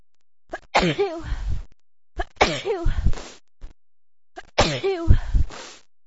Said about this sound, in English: Oh. I've been sneezing so bad this morning. I can't stop.